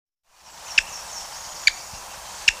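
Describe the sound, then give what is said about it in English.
Three short, sharp 'kik' calls from a black-backed woodpecker, evenly spaced about a second apart and fairly clear against a steady hissing background. “Black-backed woodpecker.”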